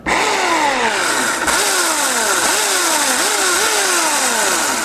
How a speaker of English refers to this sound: I wish there was a motor on this thing, but it turns out that chainsaws that are electric work a lot better on ice sculptures.